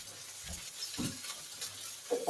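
Mussels and clams, together with small shrimp, sizzle steadily in a hot frying pan, with a few soft clattering thumps as the shellfish is tossed and shaken around; moderately loud, no talking.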